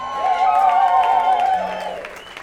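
An audience claps and cheers, with a sustained, wavering high-pitched whoop riding over the scattered clapping before the whole burst gradually fades out.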